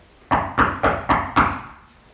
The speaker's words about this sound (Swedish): Då kom han tillbaka och knackade på igen på den här stora porten.